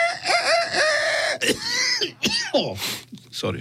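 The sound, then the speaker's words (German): A person loudly imitates a rooster crowing, a long strained cock-a-doodle-doo followed by a few short throaty crowing bursts. “Kannst du vielleicht für alle, die jetzt dazu neigen, müde zu werden, nochmal den Gockel machen?”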